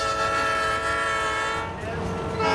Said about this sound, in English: 4 hours later, a 75-car, 6,000-ton cargo train made its regular night run to Little Rock.